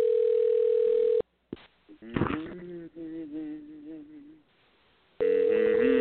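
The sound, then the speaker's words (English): An outgoing phone call to a second phone number rings out unanswered with a steady electronic ringback tone, two long rings heard over the earpiece, separated by a stretch of muffled, warbling voice-like sound and a pause. “All right, we're trying phone number two.”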